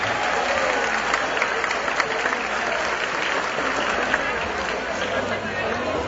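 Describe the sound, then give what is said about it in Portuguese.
A large audience claps steadily for several seconds for the evening's honorees, a dense continuous wash of applause with no pauses, filling the space at a fairly loud level. “E assim gostaria de pedir mais uma vez, com muita força, muita alegria, uma grande salva de palmas a todos os nossos homenageados da noite.”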